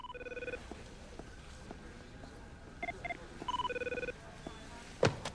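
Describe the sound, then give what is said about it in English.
An electronic telephone rings with an incoming call in rapid trilling bursts, a short one at the start and two more a few seconds later, moderately loud over quiet, followed by a sharp click. “Michelle is watching them and calls Adam by phone.”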